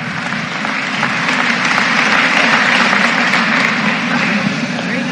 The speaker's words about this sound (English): Ladies and gentlemen, why don't we stand up and give these four Lady Indian senior volleyball players one more big round of applause.